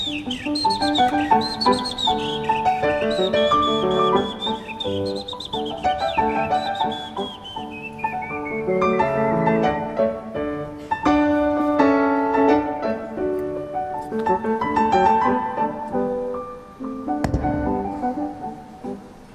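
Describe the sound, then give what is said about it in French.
Human voices mimic birdsong with whistled chirps and sliding high tones that warble and overlap almost continuously, fairly loud, with no talking. “Alors voilà, si vous arrivez sur nos ondes, hein, ce que vous entendez là, ce sont des, c'est pas des oiseaux, c'est des vrais êtres humains, avec accompagné d'une pianiste, hein, je crois me souvenir.”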